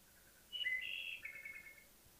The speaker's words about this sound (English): And since early May, the wood thrush has proclaimed the vespers against the deepening shadows in the valley of Baltimore Brook.